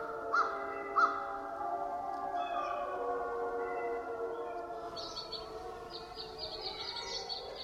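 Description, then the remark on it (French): In Canada at dawn in late March 2007, amid a spring chorus of birdsong, an American crow gives two quick, harsh caws near the start, cutting over long, wavering howls exchanged between two wolf packs. Faint high bird chirps follow later. “Une corneille d'Amérique.”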